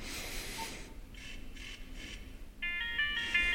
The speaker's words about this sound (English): And then we have a ringtone.